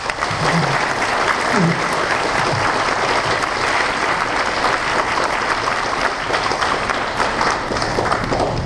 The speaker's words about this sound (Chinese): 但是我建议大家再给广女士多一点掌声，好不好？